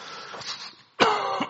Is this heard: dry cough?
yes